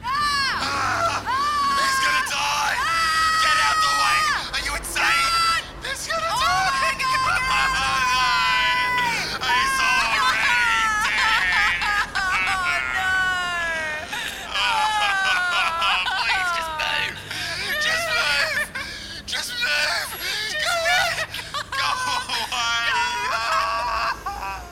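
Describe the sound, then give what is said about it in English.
A loud, continuous jumble of warbling, rising and falling wails, presented as the emergency vehicle sounds rejected before the siren sound was picked, many seemingly made by voices imitating sirens, overlapping with shrieks and crowd-like babble. “This episode is brought to you by all the emergency vehicle sounds that were rejected before we picked the siren sound.”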